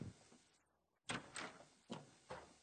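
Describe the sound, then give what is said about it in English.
A door is opened with a sharp scrape, followed by several rattling, sliding bursts in an uneven rhythm, moderately loud, with no talking. “Come on in. The door is open.”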